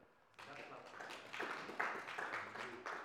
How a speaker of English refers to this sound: Can we clap for the women? But they do it by the grace of God. They do it by the grace of God. And they have men that are supporting them from behind, isn't it? So we clap for the men as well.